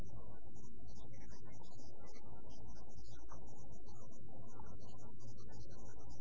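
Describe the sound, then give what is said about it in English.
A group of people hum together in a low, sustained drone that stays steady and fairly loud from start to finish, with no words spoken. “Oh, we hum. We came one with nature. Nature hummed back to us.”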